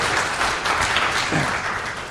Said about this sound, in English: Well done. I think that needs a round of applause. Well done.